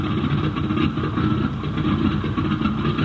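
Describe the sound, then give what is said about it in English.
A steady engine drone runs throughout, a deep rumbling hum with a slight pulsing texture and constant loudness, like a propeller engine running without pause: a repaired fighter plane running on its new engine. No one speaks. “The ship had a new engine, airworthy wings, and foolproof controls.”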